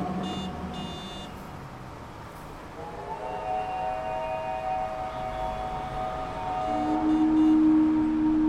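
Sustained siren tones from Avramov's Symphony of Sirens hold steady and overlap, with a lower drawn-out wail entering near the end over a rumbling, noisy background, forming an eerie, droning musical texture.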